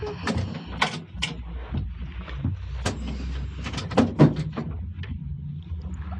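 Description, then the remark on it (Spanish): A bedroom door opens and shuts, with a series of sharp clicks and knocks from the latch and frame over a low, steady background rumble. “Calimán, desaparece tras la puerta de su alcoba.”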